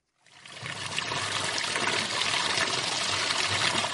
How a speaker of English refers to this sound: is collecting water from a pipe in her kitchen in Haijou residential area in Wau.